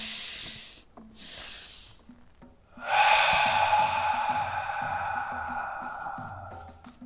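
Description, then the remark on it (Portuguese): Slow, deep breathing during a breathing exercise: two airy breaths in quick succession, then a long, louder, sustained exhale with a faint tonal whistle. No one speaks. “E agora abre os olhos, continue focado na sua respiração e prestando atenção no que eu falo.”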